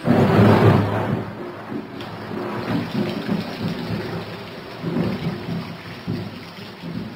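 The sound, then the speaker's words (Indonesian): Heavy rain pours down steadily in a dense, hissing roar, whipped by strong wind, with a deep rumble swelling loudest at the start before easing into a constant downpour. No voices. “Hujan deras disertai angin kencang turun tak henti-henti sejak sore tadi.”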